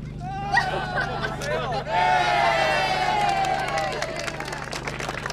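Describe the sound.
A crowd of well-wishers chatters and murmurs in steady babble outdoors in cold weather at a ribbon cutting to christen a new vehicle, with a few raised voices and light cheering swelling midway, over a low constant hum.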